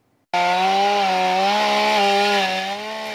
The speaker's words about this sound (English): And the Santa Clara County Fire Department made quick work of two large trees that fell across Idlewild Drive just off Highway 17. This happened right around midnight. The firefighters got to work with their chainsaws to help clear the road.